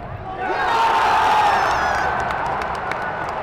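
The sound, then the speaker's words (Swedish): A large crowd of over 31,000 at a football match at Friends Arena roars and cheers, a dense, sustained wall of voices that swells and holds steady, with scattered claps and whistles poking through near the end. “Inne på arenan var stämningen på topp med över 31 000 i publiken och det blev en målrik match.”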